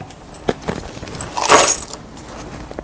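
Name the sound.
keys jangling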